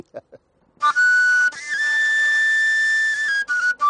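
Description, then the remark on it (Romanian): A tilinca shepherd's pipe, a simple playable tube used to call sheep to the sheepfold, plays shrill, breathy sustained notes, holding a long high tone with brief pitch slides and breaks, preceded by a couple of soft clicks. “dar acesta este tilinca, ca să-i spun eu, nu știu dacă e un instrument, dar este o țeavă din care se poate cânta.”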